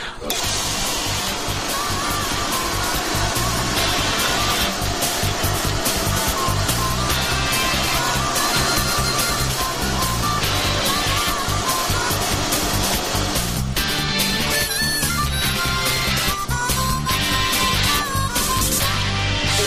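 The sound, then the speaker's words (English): A vacuum cleaner runs loudly and continuously, its steady whirring motor roar filling the whole stretch without pause, unchanging in level. “I put the vacuum on the ready.”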